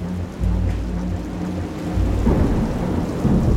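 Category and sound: nature, booming thunder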